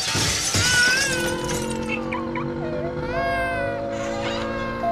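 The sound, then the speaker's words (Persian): A sharp burst of shattering glass opens the scene, followed by a baby's high, wavering cry that carries on steadily over a busy, layered background. “از صدای گریه کودک تا دزدگیر ماشین، کوبیده شدن درب خانه‌ها، از زنگ تلفن‌ها و فریادها و حتی سکوت‌ها، سکوت‌هایی که نشان از قهر و سردی دارند.”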